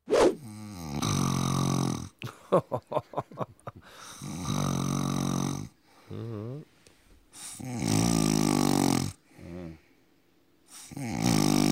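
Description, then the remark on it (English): A sleeping man snores loudly with his mouth open, several long rasping breaths broken by a fluttering, rattling stretch and brief quiet gaps, with no talking. “Big mouth open sort of snore.”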